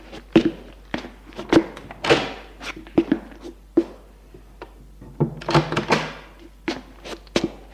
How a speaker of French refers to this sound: C'est une chambre d'amis style empire. L'on frappe à sa porte. Il va ouvrir.